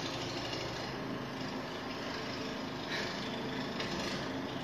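A small motor runs steadily throughout, a continuous droning whir with a faint high-pitched whine, even in loudness, with no voices.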